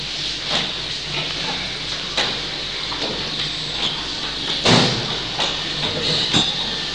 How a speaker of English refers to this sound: Yeah, we could actually open the door, that's true. Open the door.